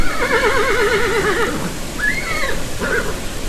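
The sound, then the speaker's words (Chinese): A horse whinnies in a long, wavering high-pitched call for about a second and a half, then gives two shorter neighs, over a steady hiss of heavy rain. These are the horses of King Ahab's chariot, hurrying toward Jezreel in a sudden downpour. “亚哈王的马车虽然已经奔走往耶斯列去，但仍被雨打得狼狈不堪。”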